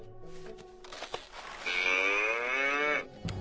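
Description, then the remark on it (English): A single loud cow moo, played back as audio meant to lure a cat, rising into a sustained bellowing call that holds for over a second before cutting off, with no talking over it. “Maybe the cat likes a cow.”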